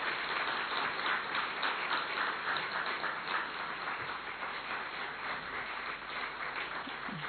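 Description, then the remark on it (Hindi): Sustained applause from a sizable crowd, a dense, steady wash of many hands clapping at once for several seconds, fairly loud and even throughout with no voices standing out, as the audience is asked to clap loudly for Dadi Didi. “दादी दीदी के लिए हमारी तालियां बजाओ जरा अच्छी तरह से, एक बार जोर से तालियां बजाओ, जोर से।”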